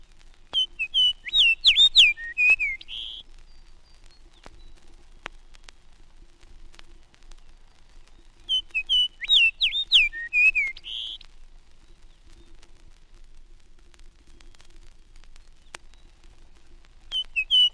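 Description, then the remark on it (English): A fox sparrow sings near Hudson Bay, two clear, whistled phrases, each a rich run of sweet notes lasting about two seconds, separated by a long pause of quiet background, fairly loud. “Fox sparrow prefers the northern spruce forest for nesting. Here a bird sings near Hudson Bay and a second one in Canadian Labrador.”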